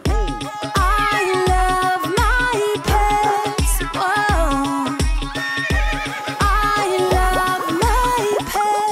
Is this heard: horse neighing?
yes